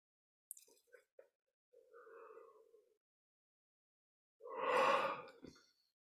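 A man yawns audibly during a guided meditation session, as a form of energetic release rather than tiredness, with a drawn-out, breathy vocal sound. A quieter murmur comes first, then a louder, stretched yawn that trails off into an exhale.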